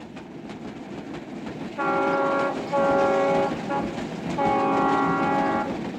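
A train rumbles steadily past while its horn sounds several loud, sustained blasts, two close together and then a longer one, over the continuous roar of the cars.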